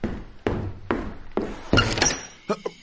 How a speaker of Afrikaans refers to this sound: ek is regtig jammer ek klop so laat aan, maar ek het dringende nuus.